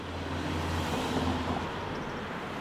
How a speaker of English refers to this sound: Cars are speeding by on a busy street in Madison.